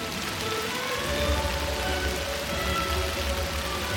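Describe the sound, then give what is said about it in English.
Steady rain hisses over the main square of the small town of Plains, Georgia, where hundreds of people with umbrellas gather, a dense, even wash of drops with a low rumble underneath from about a second in, continuous, with no voices. “It was raining, but a crowd with umbrellas was still there, hundreds of people.”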